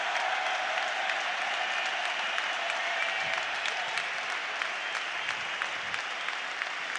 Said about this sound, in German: Und jetzt kommt der Wechsel. Jetzt kommt Marek Mintal. Und hören Sie sich einmal diesen Jubel an.